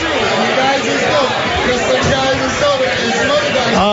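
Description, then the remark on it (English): Dense, steady crowd chatter fills the whole stretch: many overlapping voices blend into a loud, continuous babble with no single speaker standing out. “We just have quite the crowd.”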